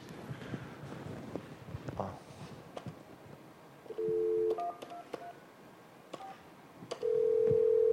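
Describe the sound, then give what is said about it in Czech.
A desk phone call being placed from one desk phone to another in the same room: short beeping keypad tones, then a steady electronic tone begins near the end. Quiet background noise and faint handling sounds run underneath, with no talking. “Takže já nevím, jak to předvést, jo, ale mám takhle, ukážu, že se volám vlastně z toho jednoho telefonu a zvoní to na tady tomhle.”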